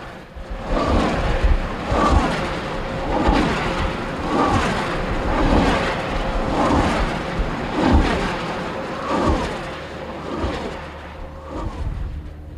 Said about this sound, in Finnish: Tuulivoimalan siivet siinä ääntelehtivät pyöriessään.